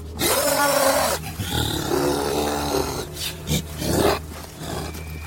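A beast roars loudly and close by, a deep rumbling growl that swells and surges in several ragged bursts over a few seconds, with no talking.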